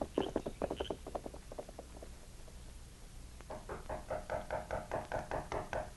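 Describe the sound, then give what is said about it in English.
Someone raps on a door in a quick flurry of knocks that trails off, then after a short pause starts again with a louder, steady series of knocks that wakes a sleeping man. No voices are heard. “Knocking on the door finally wakened Jim.”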